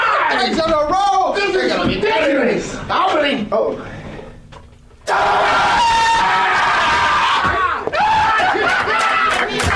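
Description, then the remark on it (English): In a scream room, loud, overlapping screams and shrieks from several people, continuous and chaotic, easing off briefly midway before surging back at full volume, mixed with bits of laughter and excited voices. “So, first day. Already in the scream room.”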